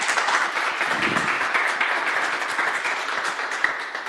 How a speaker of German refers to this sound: Kräftigen Applaus.